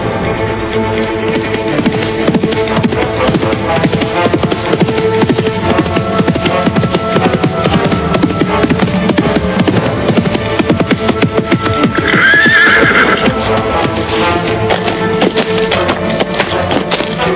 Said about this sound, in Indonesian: Dari arah ujung jalan muncul seorang penunggang kuda.